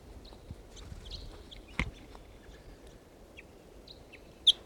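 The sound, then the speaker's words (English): Wild birds flying in a park at about 7 o'clock give short, high chirps scattered over a low, rumbling background, with a couple of sharp, brief bursts standing out, one midway and a louder one near the end. No one speaks. “Wild birds flying.”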